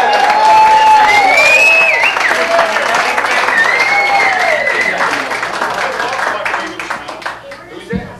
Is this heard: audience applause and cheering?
yes